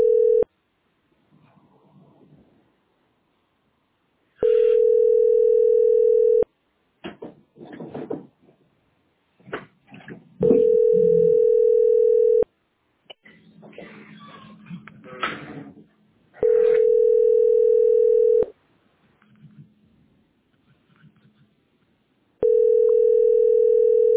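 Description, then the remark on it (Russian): A loud, steady telephone tone sounds in two-second bursts, repeating four times at even intervals, with clattering and rustling noises in the gaps between them. “Телефон возьми.”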